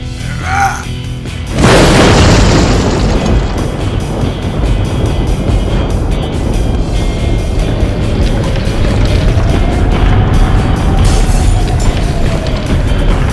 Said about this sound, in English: Falling rubble. Flaming boards. Crumbling walls, it was the end! And outside the collapsing remains of the second citadel, all the others could do was watch.